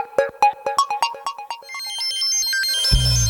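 An electronic 5:30 alarm on a radio show ringing as a bright, plucky melody of quick repeated notes, then a rising run of chiming tones, ending as a low rumbling swell comes in. No one speaks.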